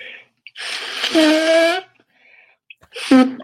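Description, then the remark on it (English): Two loud nose blows: a long, rushing blast that turns into a honking, trumpet-like tone, then a shorter honking blow after a brief pause. “I'll blow my nose real quick, guys.”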